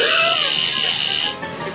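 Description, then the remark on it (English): A joy buzzer gag goes off during a handshake: a loud, harsh electric buzzing rattles continuously for over a second, dense and raspy, then drops off abruptly into a quieter hum. “The hand buzzer. It's still our biggest seller.”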